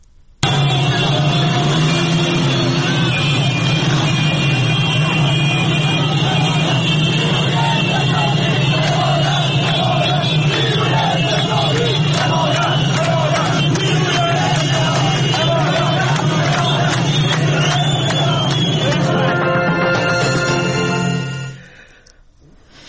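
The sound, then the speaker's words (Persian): A dense crowd of bazaar merchants marching in a street protest at the Yaftabad bazaar in Tehran chants slogans, many voices overlapping loudly and steadily with a rough, rumbling edge, before the sound cuts off abruptly near the end. “چند ثانیه صدای مردم رو بشنوین، بازاری ها رو در این تظاهرات.”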